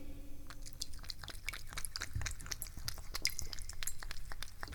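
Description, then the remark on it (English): A female cat laps up freshly poured water, making a quick, steady series of wet clicks and smacks that go on without pause, with no voices over them. “Here, you want to listen to her drink it?”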